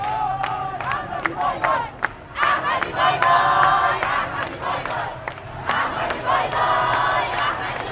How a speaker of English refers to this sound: Campaign rallies have been large and raucous. Thousands of voters, mainly young and often women, line the streets of Tehran this week, many screaming Ahmadi bye-bye, referring to incumbent President Ahmadinejad.